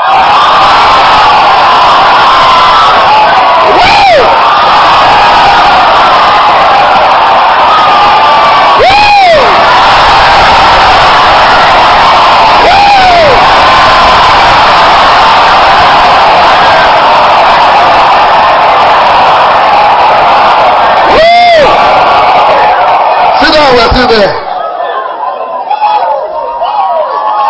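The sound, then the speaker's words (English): A large crowd roars and cheers continuously, dense and loud, with individual voices whooping and rising shouts breaking through several times before the noise cuts off abruptly near the end. “These words have to do with shouting.”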